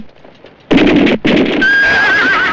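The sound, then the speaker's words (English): Frightened horses bolting under a gunman's volley whinny loudly, a burst of shrill neighing broken by a brief gap, then a long wavering squeal rising over the noise, with no voices. “Panic reigns as frightened horses bolt and soldiers tumble into the dust.”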